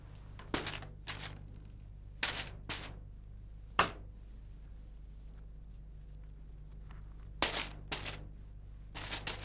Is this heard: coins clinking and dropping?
yes